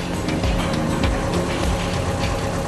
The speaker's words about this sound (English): This is a beautiful boat. And you can hear that engine, just really sweet, lovely. And I haven't steered a boat like this for 15 odd years.